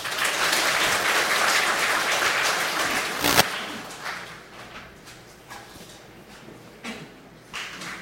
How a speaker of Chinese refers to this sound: 我们先给掌声啊。